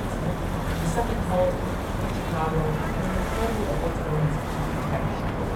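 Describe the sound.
The busy tour boat Skyview passes on the water, its steady low engine rumble mixed with wind and lapping waves, with faint voices murmuring underneath throughout.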